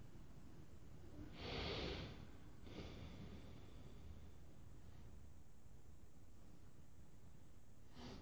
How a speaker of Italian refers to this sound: E cambia la nostra posizione del dito, chiude la canale destra e apre la canale sinistra, e questo passa nel nostro respiro nella canale sinistra, inspira, espira.